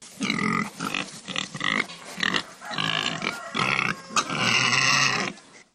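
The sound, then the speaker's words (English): Pigs grunt and snort in a quick, uneven series of loud bursts, ending in a longer, higher squeal-like call. No one speaks. “Pigs help Georgia's economy a lot, but they can also cause a lot of problems.”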